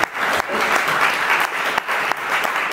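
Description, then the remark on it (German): Sustained applause from a crowd, a dense steady crackle of many hands clapping at once for several seconds, fairly loud with no voices standing out. “Ja, da kann man jetzt mal klatschen.”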